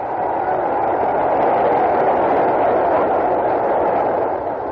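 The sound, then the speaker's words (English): A boxing arena crowd at a Walcott fight cheers after the bell ends a round, in a steady, loud roar that holds without letup for several seconds, a dense wash of many voices with no single speaker standing out. “Well, listen to the crowd for a second.”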